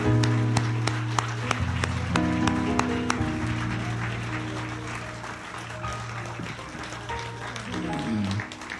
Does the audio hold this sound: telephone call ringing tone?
no